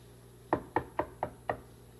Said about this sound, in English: Do you knock? Sure. You knock before you go in.